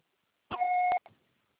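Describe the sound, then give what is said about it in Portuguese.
A single steady electronic answering machine beep, about half a second long, held at a bright fixed pitch with a clean harmonic above it, ending abruptly with a short faint blip after; no talking. “só que só será tarifado após o sinal.”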